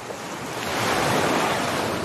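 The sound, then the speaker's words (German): Ocean waves break on a tropical beach with a steady, full-band wash of surf that swells slightly louder midway and stays continuous, with no voices. “Atme die frische, belebende Meeresluft ein.”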